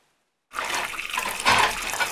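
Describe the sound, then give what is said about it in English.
Running water pours steadily from a tap into a kitchen sink as dishes are washed, starting abruptly after a brief silence and continuing as a broad, hissing splash that swells slightly midway. “Dad washes the dishes in the sink.”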